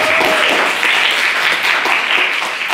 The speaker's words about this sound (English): Anyway, that's it. Can we get another round of applause for a maiden speaker?